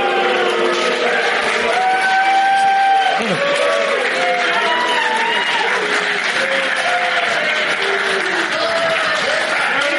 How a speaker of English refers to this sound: See, I don't want to just listen to the loud boos. I want to watch the smarky claps as well. It's a loud boo.